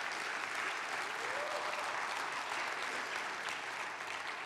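A crowd at a church service claps in a steady, dense round of applause for a guest who gave an update on Mission of Hope, holding at an even, fairly loud level for several seconds, with no voices standing out.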